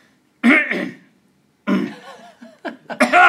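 Someone loudly clears their throat in several harsh, rasping bursts close to the mic, pausing between them, with the last few coming in quicker succession.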